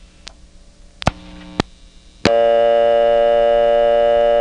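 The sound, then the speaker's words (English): A payphone on a STEP exchange, hung up, gives its coin collect sound: a few sharp mechanical clicks and clunks, then a loud, steady electrical buzz that starts abruptly and holds to the end. No one speaks. “Now it's time to hang up and actually get the coin collect sound on tape.”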